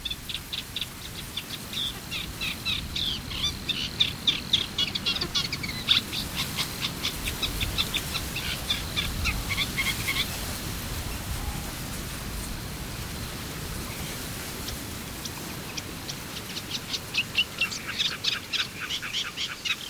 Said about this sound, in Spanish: El viento sacude la masa de carrizos que envuelve las tablas de Daimiel. Aquí, en este mundo cerrado y con el horizonte visual limitado a unos pocos metros, la voz es la única forma de hacerse notar. Eso es lo que hace un carricero común.